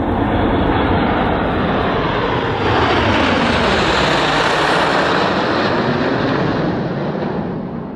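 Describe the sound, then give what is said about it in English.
A loud military flypast by the Red Arrows, Spitfires and bombers at a commemoration event, a continuous, dense engine roar filling the whole clip, with the pitch sweeping and shifting midway as the planes pass over. No voices. “We've had the Guard of Honour, bagpipers, and listen to this, flypasts through the sky from the Red Arrows, Spitfires and bombers.”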